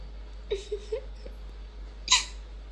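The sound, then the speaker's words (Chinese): Someone imitates a dog barking: three quick, high-pitched yips in a row, then a pause and one louder, breathier bark, right into the microphone. “那最后你在学狗叫，在屋子里爬一遍，一边爬一边叫，我就答应你。”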